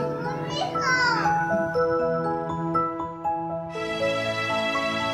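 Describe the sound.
A young child fusses and babbles in short whiny bursts, with steady melodic music and background voices running underneath.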